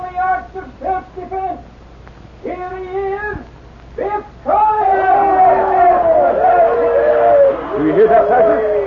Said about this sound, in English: The sergeant watched the husky Irishman stride out on the stage to the cheers of the audience.